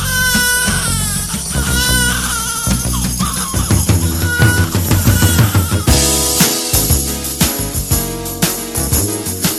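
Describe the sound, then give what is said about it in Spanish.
A newborn baby, recorded in a hospital at birth, wails in repeated rising cries near the start, layered over loud, steady music with a thumping bass line and drums that carry on to the end. “Tan perfeccionista era que se fue a un hospital a grabar el llanto de un bebé al nacer, con permiso de la madre, por supuesto.”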